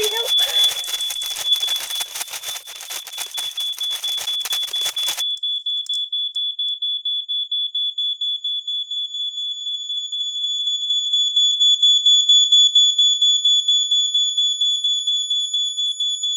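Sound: alarm blaring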